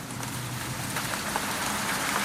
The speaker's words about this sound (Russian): Дождь барабанит по моей голове. Струйки воды текут за воротник.